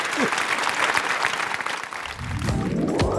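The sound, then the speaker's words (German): An audience applauds a guest at the end of a conversation about a book, in a steady wash of dense clapping that holds strong throughout, while a low rising tone swells underneath toward the end. “Wir kriegen noch einen Applaus für Sie.”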